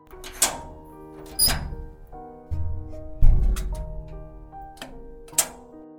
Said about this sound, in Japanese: そして俺は、屋上につながっていた扉を開けた。